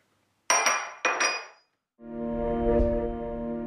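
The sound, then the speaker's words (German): Two quick, bright clinks of coffee cups tapping together in a toast, ringing briefly, followed after a short pause by a steady, buzzy tonal hum that sustains to the end. No voices. “Warte, den trinken wir aber jetzt. Prost. Prost.”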